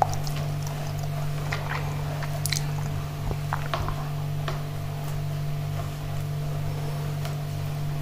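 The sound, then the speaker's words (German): Damp, squishy rubbing and soft wet scrapes, like a cloth wiping water out of a machine, with irregular short swipes over a steady low electrical hum. “Genau, schön durchwischen. Nicht, dass die Maschine irgendwann mal kaputt geht, weil irgendwo Wasser reingerät.”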